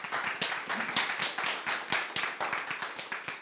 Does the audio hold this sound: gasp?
no